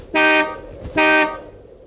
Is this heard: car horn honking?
yes